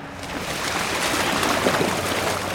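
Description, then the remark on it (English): A wild manatee named Berkey, wearing a GPS tag, slides off a stretcher into water among mangroves, making a continuous rush of sloshing, churning water, steady and fairly loud for a few seconds with no voices. “After a few moments wriggling on the stretcher, Berkey glides, I won't quite say gracefully, into the water.”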